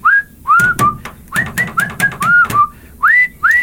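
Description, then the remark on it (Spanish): A clear whistled tune from a song played on a loud cassette sound system, heard from afar: a quick series of rising, slurred notes in a lively rhythm, with faint music or percussion underneath; no one speaks. “Y se escuchaba a lo lejos alguien que tenía equipo de sonido fuerte, tipo cintas, y había una canción que traía un chiflidito, nada más escuchaba a lo lejos.”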